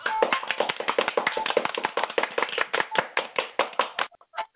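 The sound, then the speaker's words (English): A quick burst of hand clapping given for a good point on the Talk to the Twins show on Blog Talk Radio, many sharp overlapping claps in a dense, steady run for about four seconds, then a few scattered softer taps as it stops. No one speaks. “Got to give you a hand clap for that.”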